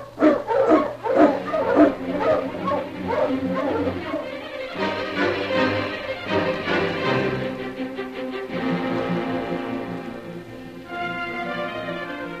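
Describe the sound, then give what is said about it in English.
A pack of sled dogs barks and howls excitedly together, loud, with overlapping yelps and yips that continue steadily throughout, as the dogs are got up to hit the trail. “All right, get the dogs up, King.”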